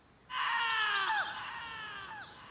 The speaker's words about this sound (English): the silence was suddenly pierced by a scream from deep within the bunker.